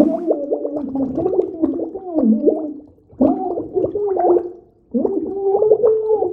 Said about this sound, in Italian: Un gioco che facevo spesso al mare da bambino e che faccio ancora con le mie figlie è gridare qualcosa di sensato sott'acqua e cercare di farmi capire. Cosa che non è semplice perché la voce si mescola alle bolle e alle inevitabili risate.